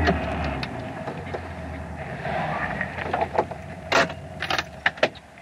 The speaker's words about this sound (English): We didn't go to the store in a car. We took the motorcycle.